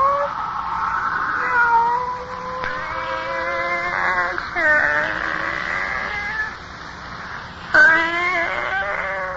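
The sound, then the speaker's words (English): A pet cat named Kitty yowls in long, drawn-out, wavering meows, several in a row with brief pauses, loud, rising into strained caterwauling cries near the end. “It's you, Kitty. Barbara's pet. Haven't seen you since Barbara died.”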